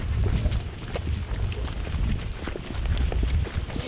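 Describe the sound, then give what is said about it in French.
Goat hooves clatter irregularly as goats on a goat farm climb onto a wooden milking platform to line up for milking and eat pellets, a busy patter of many quick steps over a low, rumbling background. “Les chèvres, on les met là-bas dans le parc. Là. Ils montent ici.”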